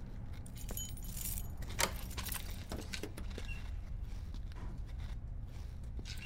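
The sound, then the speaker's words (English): Keys jangle and clink as they are taken from a security door, a bright metallic rattle that comes in bursts over several seconds against a low, steady rumble in the background. “There's keys in the door.”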